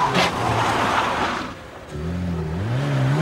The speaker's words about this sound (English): It swerves and skids around the parking lot of a housing estate. A light comes on in one of the houses as the car continues to swerve and skid. Alarmed by the noise, an elderly man steps out of the lighted house.